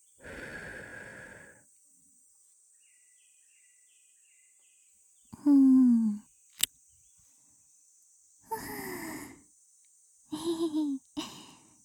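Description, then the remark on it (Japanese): Soft, breathy exhalations of a shrine maiden blown into the ear to soothe, several gentle puffs separated by quiet pauses, some carrying a faint sighing voice, with no talking. “清らかな巫女さんの吐息で癒して死んぜよう。”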